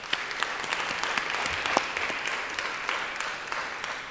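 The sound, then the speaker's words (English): A crowd claps steadily for several seconds, a dense wash of many hands with a few sharper individual claps standing out, fairly loud and continuous without any talking. “Let's give him one more hand of applause.”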